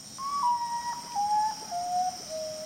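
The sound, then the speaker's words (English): A common potoo calls in a slow series of mournful, pure whistled notes, each stepping lower in pitch, with a steady insect-like hiss droning in the background. “What does musician …, who composed the theme music for Bird Note, hear in the call of the common potu?”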